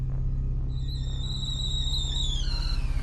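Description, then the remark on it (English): A steam kettle whistles on a gas range stove in a kitchen, a shrill, steady tone that rises in after a moment, wavers slightly, then dips in pitch before cutting off, over a constant low rumble. “In the kitchen, a steam kettle whistles on the stove.”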